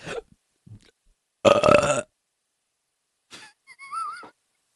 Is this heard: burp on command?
yes